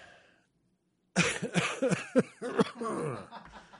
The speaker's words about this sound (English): I repressed that cough almost the entire interview.